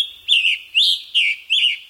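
scarlet tanager song

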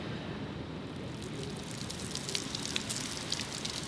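rain falling

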